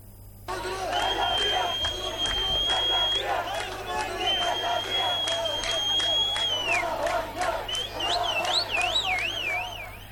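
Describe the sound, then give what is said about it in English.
A loud street crowd cheers continuously in celebration of Iran's missile strike against Israel, with shrill sustained whistles, a warbling siren-like tone near the end, and scattered sharp claps or bangs cutting through the steady roar of many voices. “Iran's missile strike against Israel has sparked celebrations across the region, with hundreds taking to the streets to express their support for Tehran's show of strength.”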